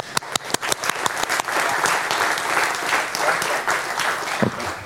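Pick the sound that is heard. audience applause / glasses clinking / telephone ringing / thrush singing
audience applause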